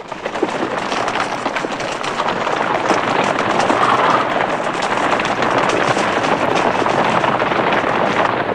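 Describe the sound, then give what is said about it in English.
A sustained barrage of rapid gunshots as a posse fires into a crowd of men and horses crackles over a dense, roaring wash of noise, the sharp bursts piling together with no pause across the whole stretch. “As the posse arrive, they fire into the crowd of men and horses, causing disarray amongst them.”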